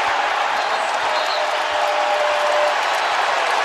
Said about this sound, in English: Then we have a delay of game when Bledsoe smacking the ball away from James Harden trying to get it in. Listen to this crowd, guys.